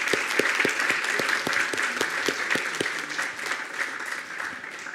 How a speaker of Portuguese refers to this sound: Aê, barulho para... Palmas, palmas, palmas.